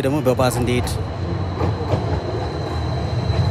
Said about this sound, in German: Immerhin fährt in Addis Abeba auch die erste moderne Straßenbahn südlich der Sahara. Natürlich voll elektrisch und wie die meisten E-Autos im Land von den Chinesen gebaut.